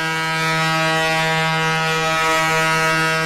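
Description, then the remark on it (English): A tugboat foghorn blows one long, steady, deep blast that stays loud and unbroken throughout, with a rich buzzing tone and no voices. “In the New York City of the early 20th century, the sound of foghorns emanating from tugboats was a frequent occurrence.”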